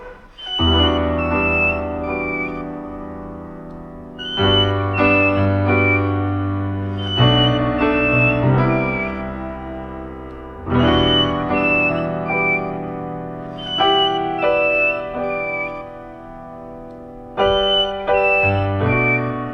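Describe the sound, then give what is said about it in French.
Song of a mountain whistler on the mountain trails of Martinique: clear, flute-like whistled phrases recurring every few seconds, each opening with a bright note and trailing off, heard over a full, sustained tonal backdrop with no talking. “C'est le chiffreur des montagnes.”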